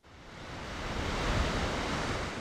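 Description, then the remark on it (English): A steady wash of ocean surf breaking over a deep water reef at the Lunada Bay surf break, broad and hissing, swelling slightly midway as a wave breaks, with no voices over it. “What makes the waves so great is the location of a deep water reef that creates perfectly shaped waves nearly every time.”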